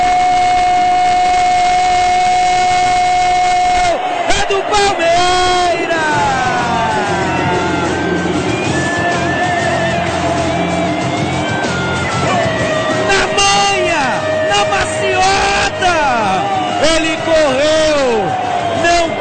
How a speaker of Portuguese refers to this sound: Moisés balança a rede, a torcida canta, vibra, meu coração se alegra, o jogo acaba e o Verdão bate o Atlético Paranaense por 2-0.